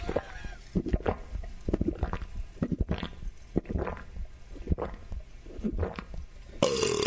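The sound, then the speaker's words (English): A Marine veteran gulps down a beer poured into her prosthetic leg at a Los Angeles Lakers game, a rapid series of wet, throaty swallows, fairly loud, before a burst of cheering from the crowd swells at the very end. “And then chugging the drink.”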